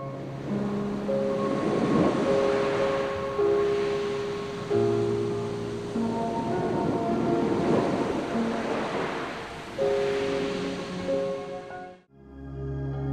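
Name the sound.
ocean waves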